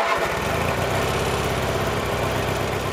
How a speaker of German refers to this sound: Bis dahin ist noch viel zu tun und deshalb schwingt sich Fried jetzt wieder auf seinen Rasenmäher und macht weiter.